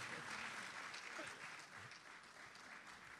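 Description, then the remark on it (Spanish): Steady audience applause welcoming a guest actor who reads poetry fills the whole stretch, a dense hiss of many hands clapping at an even level without pause, with no clear speech standing out. “Un aplauso.”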